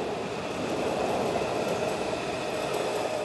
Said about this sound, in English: But these days, a lot of Virginians are more familiar with the whoosh and ringtones of a metro train.